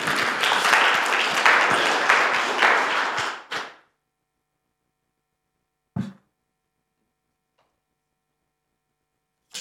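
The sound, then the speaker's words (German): A burst of audience applause for the speaker's son, his assistant, many hands clapping densely and loudly for about three and a half seconds before stopping abruptly, followed by silence and a single faint knock. “Vielleicht könnt ihr ihm mal einen Applaus geben.”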